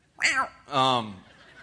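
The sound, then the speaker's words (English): A person's voice imitates a cat with two drawn-out, wavering meow-like cries in quick succession, fairly loud, with no other talking. “I don't know why I made that cat noise.”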